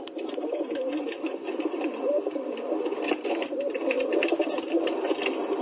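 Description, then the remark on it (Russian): Pigeons held by pigeon breeders on a high hill, awaiting their release after a church service, coo steadily, a dense overlapping murmur of low throaty calls continuing throughout with a faint outdoor hiss behind. “Вот как эти голуби воркуют.”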